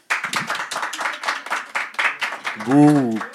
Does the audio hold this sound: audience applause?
yes